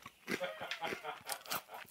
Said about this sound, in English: He's pissing quickly because he knows I'm in here smashing the crispy Watsits.